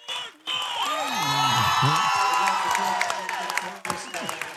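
At a Tigers basketball medal ceremony after a 74-44 win, a loud crowd roars and cheers continuously, with a player's shout rising clearly above the noise and scattered whoops and claps throughout, energetic.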